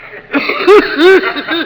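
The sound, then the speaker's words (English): An exaggerated, theatrical cough: two loud hacking bursts with a strong voiced, rasping tone, joined by shorter throaty sounds, performed alone with no talking. “And now, will you show us the cough that made theatrical history in 1935?”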